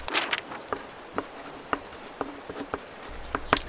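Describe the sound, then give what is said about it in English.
Pen or pencil scratching across paper in short, irregular strokes as someone notes two birds on a list, with a few sharper ticks and taps scattered through, fairly quiet and with no voices. “I'm gonna make a note of these two birds on my list.”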